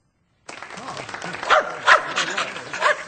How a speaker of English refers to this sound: Is that your dog? Yeah, this is Amos, my best friend. Brought him along for moral support.